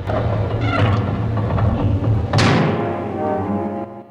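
A low, grinding rumble of two heavy doors sliding shut, ending in a loud booming slam around the midpoint that rings and fades slowly. No voices.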